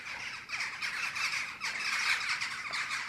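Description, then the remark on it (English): A dense chorus of harsh, overlapping squawks from a late-arriving flock of about 250 young corvids coming in to roost, continuous and raucous with no pauses. “Crazy late flock of teenagers have just come in. Another 250.”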